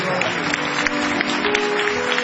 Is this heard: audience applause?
yes